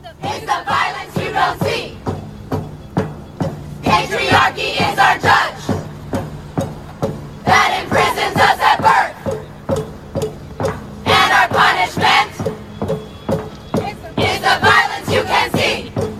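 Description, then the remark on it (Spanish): About 100 women chant a protest song in unison outside a Manhattan court in New York, directed at Harvey Weinstein: loud rhythmic phrases rising and falling in bursts, with steady sharp percussive beats, like clapping or stomping, underneath. “El 10 de enero pasado, unas 100 mujeres se plantaron afuera de una corte de Manhattan, en Nueva York, a cantarlo para Harvey Weinstein.”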